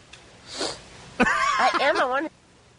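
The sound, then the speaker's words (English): A short, breathy sniff through the nose, followed a moment later by a louder wavering voiced sound. “Wow, and a nice big sniff at the end, too.”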